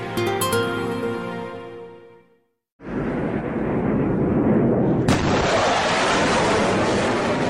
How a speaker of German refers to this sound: Es ist das Geräusch eines neuen Zeitalters. Ein Flugzeug durchbricht die Schallmauer und zum allerersten Mal hört man den dabei entstehenden Überschallknall. Auslöser ist das Raketenflugzeug Bell X-1.